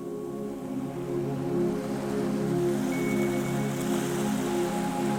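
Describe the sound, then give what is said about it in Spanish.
A steady, soft wash of sea water noise with a low continuous hum beneath it, gentle sea waves lapping a few meters away on a sandy beach at nightfall, with no voices. “El mar, a escasos metros, se oye suave.”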